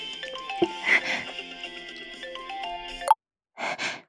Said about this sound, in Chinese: 妈妈的手机响了，儿子，你先停一下，妈妈接个电话好不好啊？